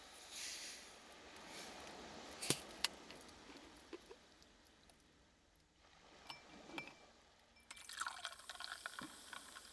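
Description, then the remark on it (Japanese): Carbonated water poured into a glass over homemade ginger syrup to make ginger ale, a soft liquid rush with a couple of sharp glassy clinks, then a bright crackling fizz of bubbles toward the end. No talking. “適量を入れましたら、こちらに炭酸水を注いでいきます。”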